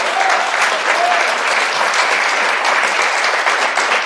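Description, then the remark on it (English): Steady applause from a live audience at the end of a show, applauding themselves, fills the whole stretch, dense and fairly loud, a continuous wash of many hands clapping with no talking over it. “Thank you guys in the live audience. You were wonderful. Give yourself a round of applause.”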